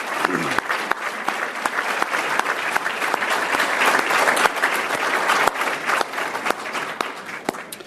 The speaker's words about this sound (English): There's so many in the room. Could each of you stand up and let's give you all a round of applause, our certified bureaus that are with us?